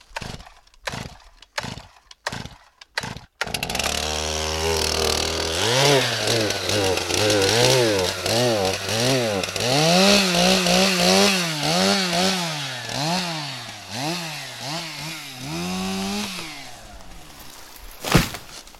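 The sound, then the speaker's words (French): A chainsaw snarls into life after a few sharp knocks, then cuts wood for over ten seconds, its loud engine whine rising and dipping in pitch as it bites and eases off. “C'est un plaisir, disons que quand tu coupes du bois, tu penses au travail où tu es, tu penses un petit peu moins à tes soucis, ça te fait du bien un peu au cerveau”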